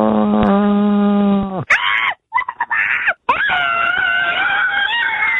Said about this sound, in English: people can call his Just Scream hotline and scream into the phone